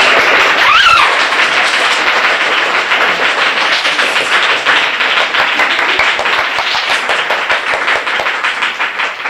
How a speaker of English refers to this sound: Excuse me? I just wanted to clap. Oh, yes.